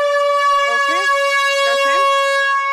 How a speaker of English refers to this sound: So if he decides to use the air horn, an air horn.